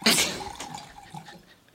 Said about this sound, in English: Where's that coming from? Hmm? Where is that coming from? Maybe your chair. There's a water sound. Might be your chair. I'm hearing someone pouring water in here. I think it might be like fluid circulating through your body.